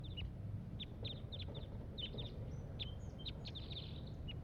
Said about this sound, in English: There is one wild crossbill here up in the top of this pine tree. And this is it giving calls. Pointed at the wild bird.